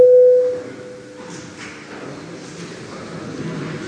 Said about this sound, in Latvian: Lūdzu zvanu.